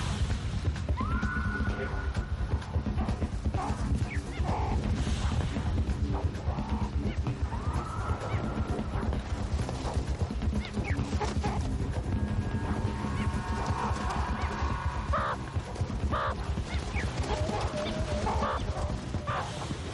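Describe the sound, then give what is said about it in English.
Sharp, chattering meerkat sentry alarm calls repeat at intervals, rising and falling over a steady, dense background wash, as the sentry warns the group of an eagle. The calls are moderately loud and come in scattered bursts. “The sentry sounds the alarm to the others.”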